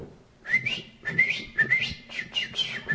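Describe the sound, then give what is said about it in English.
A person whistles in imitation of a canary's song, as done to train a male canary kept alone in a dark cage: a series of quick, high, warbling trills and chirpy slides, repeated in five or so short bursts with brief gaps between them. “Grandpa began going like this. The canary was in the cage by itself.”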